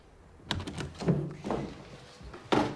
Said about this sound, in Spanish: Cuelga el teléfono y sale.